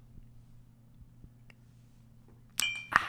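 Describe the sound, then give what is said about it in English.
Two drinking mugs of beer knock together in a quick toast, a bright clink followed by a second ringing clank, over a low steady hum. “So let's go ahead and cheers to that and continue the show. Cheers.”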